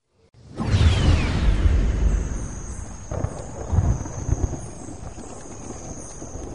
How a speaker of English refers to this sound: Icy rain splashed down through the canopy, and thunder rolled like turbojets of gunships passing overhead.